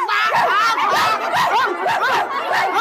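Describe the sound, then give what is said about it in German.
Rapid, steady yapping dog barks from the small electronic speaker of a toy magic box that plays animal sounds when pressed, loud, repeating about twice a second with a tinny, slightly laugh-like quality and no talking over it. “Wenn ich da drauf drücke, kommen Tiergeräusche raus. Kennt ihr Tiere? Ja, soll ich mal drauf drücken? Pass auf, hier kommen jetzt Hundegeräusche.”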